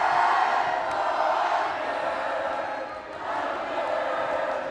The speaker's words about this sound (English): The audience erupted. On one side of the gym, the Islander crowd sang in support of their team.